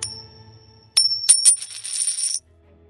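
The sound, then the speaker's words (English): A coin pings as it is flicked into the air, then lands with a few sharp metallic clinks and rattles as it spins and settles on a hard surface, clear. “They tossed a coin to decide the matter.”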